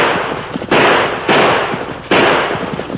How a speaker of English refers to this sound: You ornery fool. You're shooting wild.